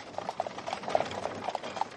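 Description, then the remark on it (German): Horse hooves clip-clop in a steady, brisk rhythm as a horse-drawn public transit wagon passes through the Sendlinger Tor in Munich in 1861, with a faint background hiss and no voices. “Das erste öffentliche Massenverkehrsmittel, damals noch eine von Pferden gezogene Wagenlinie, durchquerte 1861 das Sendlinger Tor.”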